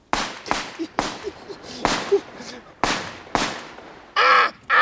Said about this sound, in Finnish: Nyt ammutahan!